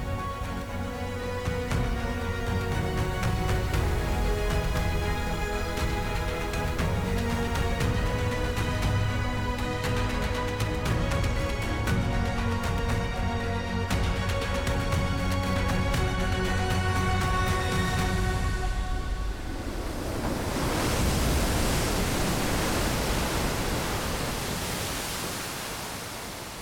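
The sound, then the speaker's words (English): A loud, continuous roar of surging water, like a towering wave, fills the space. A low droning tone runs beneath it at first, then only the rushing roar remains. “This moment, the wall of water stood over them.”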